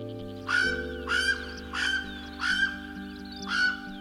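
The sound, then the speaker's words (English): Five loud, raspy calls of the Hawaiian crow (alala), each a short harsh caw with a rising, nasal tone, come at a steady, evenly spaced rhythm over a faint, low sustained hum. “Enter the story of the Hawaiian crow, the alala.”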